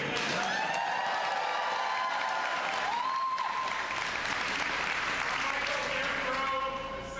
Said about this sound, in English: This is a good time for me to remind people, please do not applause and clap because it's going to take away from the time we have to hear people.